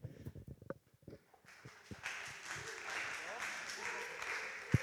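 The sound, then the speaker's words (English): Brief voices and small sounds give way to an audience applauding as the next speaker comes up to talk: dense, steady clapping that swells in and holds at an even loudness to the end. “No, you shouldn't clap first.”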